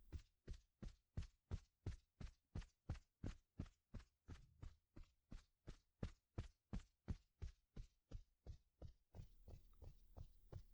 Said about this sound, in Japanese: まずは、肩を軽く叩いてあげる。 トントン、トントン。トントン、トントン。